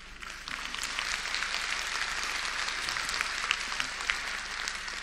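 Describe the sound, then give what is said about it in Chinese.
Thin, scattered applause from a small audience, a steady patter of claps at moderate volume lasting several seconds with no voices over it. “这么精彩，怎么鼓掌声这么一点点呢？”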